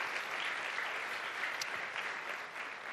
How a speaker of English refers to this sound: So let's give ourselves a big round of applause for that, first of all.